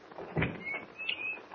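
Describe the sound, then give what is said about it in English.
The door to a basement laboratory being opened: a dull knock of the latch, then a drawn-out, high creaking squeal of the hinges in two short stretches, with no voices. “I think this is the door.”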